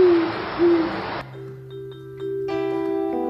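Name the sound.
owls hooting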